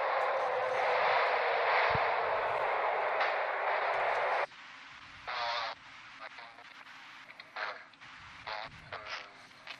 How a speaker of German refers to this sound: Klingt nach Bahnhof.